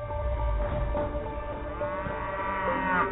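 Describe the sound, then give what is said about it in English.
Cows in a field moo in long, low, drawn-out calls that overlap and carry on for the whole stretch, fairly loud, with a faint outdoor rumble underneath and no one speaking. “I can picture now being in this field, a river in the background, and I don't know, about a dozen cows grazing the grass, and they sort of start coming towards me and nudging me and pushing me out of the way.”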